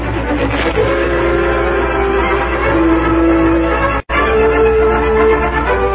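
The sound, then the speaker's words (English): A westbound train rumbles steadily along the tracks after a stop at Burkeville, loud, with a continuous mechanical roar and drawn-out tonal whines over it, briefly cutting out for an instant before resuming. “Then the train rolled on.”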